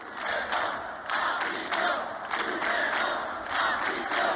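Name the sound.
protest crowd shouting chants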